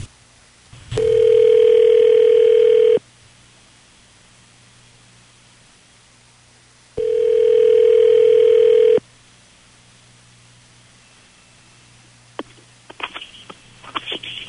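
An outgoing phone call rings on the line: two long, steady ringback tones a few seconds apart, followed by faint clicks and rustling as the call is picked up.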